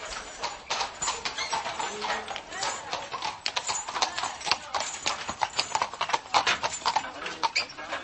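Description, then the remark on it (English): Kladruber horse hooves clip-clop steadily on a hard surface, a brisk series of sharp knocks running throughout, with indistinct voices murmuring faintly underneath. “Old Kladruber horses, with a mix of Spanish and Italian blood, are quite rare.”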